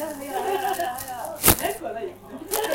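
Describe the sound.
Crinkly plastic bag rustling as a size XL hoodie is pulled out of it, with a sharp crackling burst in the middle and scattered rustles around it while people talk over the handling.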